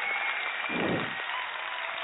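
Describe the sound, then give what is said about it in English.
Steady, dense applause from an evening show audience as the Cheap Cheetah Corner segment begins, a continuous crackle of many hands clapping at a moderate level, with a brief low rumble swelling near the middle. “Let's give a round of applause for”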